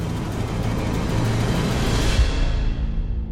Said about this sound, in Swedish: Flygplanet kraschar.